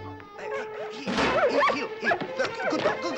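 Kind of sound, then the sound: animal, dog barking and yipping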